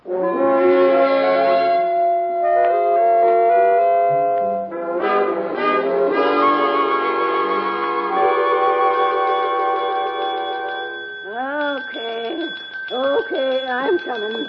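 A bell rings insistently at the Atlas Hotel, waking someone from sleep, its bright, sustained tones layered and overlapping for most of the stretch, joined near the end by some wavering, voice-like sounds.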